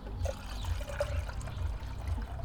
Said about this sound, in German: Das Ganze natürlich mit kaltem Wasser dann auffüllen.